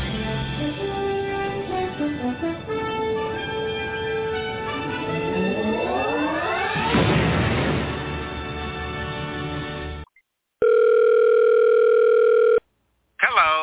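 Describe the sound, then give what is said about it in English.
A sweeping, swelling electronic whoosh gives way to a steady, loud telephone ring tone in a long burst, a short pause, then the ring starting again, before a voicemail greeting answers. “We are unable to get to the phone right now because we are busy living in a plane of existence your feeble mortal minds cannot possibly comprehend.”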